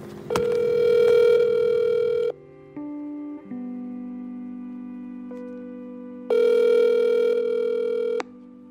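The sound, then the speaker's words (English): A phone line gives steady electronic tones as a call to the caller's mother is dialed and rings: two long ringback-style bursts separated by a lower, shifting dial-tone passage, clear, with no voices. “I am just about to call my mom.”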